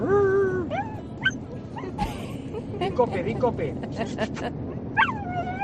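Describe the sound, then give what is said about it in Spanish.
A dog named Andro lets out a string of high whines and short yips on command to say 'COPE', some drawn out and rising like it's trying to talk, with a few brief pauses between. “vamos de viaje ahora mismo y vamos con nuestro perro Andro, al cual pues ya lo habéis escuchado, mandando un saludo a todos los oyentes de la cadena COPE”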